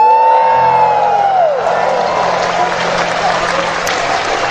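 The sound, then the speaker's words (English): A large audience in Pittsburgh erupts in loud, sustained cheering and applause after being asked who is happy to be back in Pittsburgh, with a falling whoop rising above the noise at the start before steady clapping fills the rest. “Cheap way to get applause, wasn't it?”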